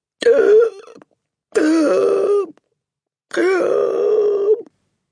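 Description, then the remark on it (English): A narrator reading a story aloud imitates the Trunchbull's three strangled, choking gasps, each a loud, straining groan-like burst of about a second, separated by short silences, unaccompanied. “The woman's face had turned white as snow, and her mouth was opening and shutting like a halibut out of water and giving out a series of strangled gasps.”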